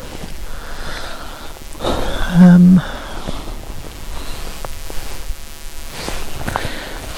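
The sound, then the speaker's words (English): Light rain falling outdoors onto the speaker, a soft continuous hiss with scattered drops striking surfaces, rising briefly in the middle before settling back to an even patter. “Oh, it's raining. It's actually raining on me.”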